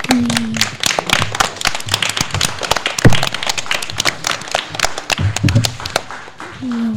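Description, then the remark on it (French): An audience claps steadily, dense overlapping hand claps, with a few brief voices and low murmurs mixed underneath. “Donc, et maintenant, applaudissez-les.”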